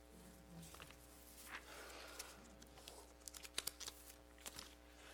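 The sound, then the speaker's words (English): The paper pages of a sermon rustling and being shuffled, a series of soft, irregular crinkles and flicks over a low, steady hum, with a few sharper snaps near the end. “Somebody shuffle the pages of the sermon like as a practical joke,”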